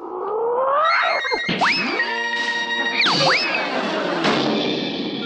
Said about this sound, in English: Okay, Tiger, now let's work out on the heavy bag.